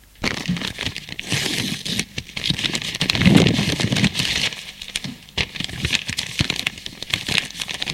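Paper rustling and crinkling, with scratchy tearing bursts running continuously for several seconds as a received note is ripped open. No one speaks.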